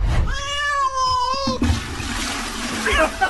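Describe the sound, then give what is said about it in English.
A cat lets out a single long, drawn-out meow, then the sound breaks into a loud rush of flowing water as the cat presses a toilet's flush button. “about a bloke who discovered an unusually high water bill that was actually due to his rogue little feline jumping up on the toot and pressing the flush button several times a day.”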